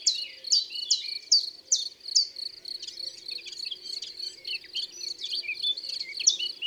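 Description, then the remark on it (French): A common chiffchaff, a tiny bird with discreet green-grey plumage, sings a steady series of sharp, high two-note chips, repeated at an even pace, over a faint continuous insect-like hum in the background. “Et là, c'est un pouillot véloce. Ce tip-tap, tip-tip, tip-tip.”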